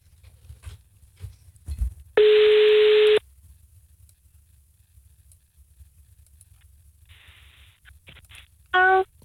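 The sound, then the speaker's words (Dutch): A telephone ringback tone while a call is placed to a friend: a steady one-second electronic tone, a long pause with faint clicks, then the tone starts again, clear, with no one talking. “En even bellen. Met een vriendin van de show.”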